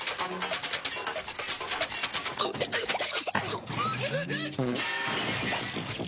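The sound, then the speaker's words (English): A crashing sound effect: a long, loud clatter of metal parts tumbling and banging against each other, dense and continuous for several seconds, with scattered clanks and scrapes as pieces keep falling. “This is the sound we used to use for the Truth Central servers, when the servers were always crashing.”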